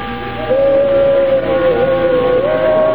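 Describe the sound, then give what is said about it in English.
Bells ringing as one sustained, slightly wavering tone with faint overtones, steady and fairly loud for most of the few seconds, with no voices. “Listen. It's bells.”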